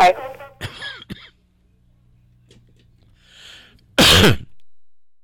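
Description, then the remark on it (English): A short coughing fit with throat clearing: a few rough bursts in quick succession, a pause, then one louder, harsh cough near the end. “Coughing jag that going there.”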